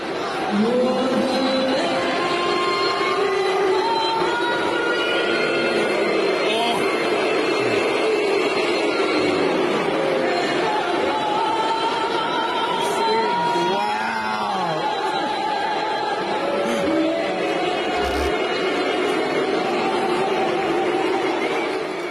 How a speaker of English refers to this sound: This is the national anthem booed in Australia. Just shocking stuff. Let's listen. It's at a sporting event.